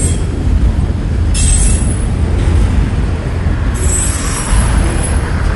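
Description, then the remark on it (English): A train rumbles past with a heavy, steady roar, while high metallic wheel squeals rise over it in two long stretches. No one speaks. “I don't know if that train is stopping.”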